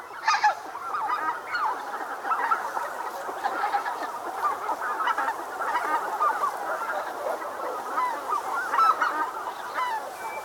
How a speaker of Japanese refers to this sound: やかもちはふるさとに帰るガンの鳴き合う声を聞き、ふるさとの奈良の都を思い出していたのかもしれません。